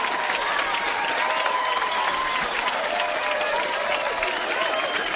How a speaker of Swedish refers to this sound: Du ser, hon kan inte sluta applådera.